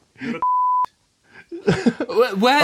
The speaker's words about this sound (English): I can beep it out if you want. Yeah, beep out the whole of his impressions.